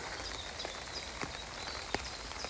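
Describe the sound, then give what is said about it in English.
Steady rain from a returning shower patters on an umbrella overhead in woodland, a dense hiss of small drops with a few sharper, heavier taps standing out irregularly. Continuous, with no voices. “And once again, my umbrella's getting pounded by little raindrops.”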